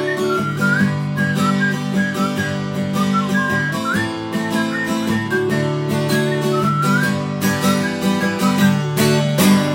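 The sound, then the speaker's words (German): A whistled melody rides on top of a full band track, bright sliding notes weaving over steady drums and bass throughout, loud with no talking. “Alter, was für eine Pfeiferei, ey.”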